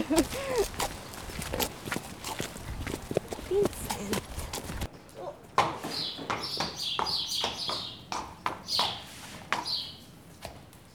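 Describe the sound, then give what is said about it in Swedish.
A horse's hooves clip-clop at a steady walking pace as it hurries to the stable, with a brief change in acoustics partway through as it goes inside the stable; small birds living in the stable chirp in the second half and a voice speaks briefly. “Nu har han bråttom till stallet.”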